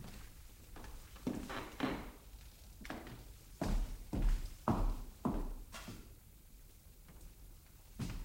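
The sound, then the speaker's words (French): Several irregular footsteps thud across the floor, with a heavier knock or two in the middle as a door is pulled shut. No one speaks. “Mais tirez cette porte avant qu'on vous les dise et regardez partout, de crainte de surprise.”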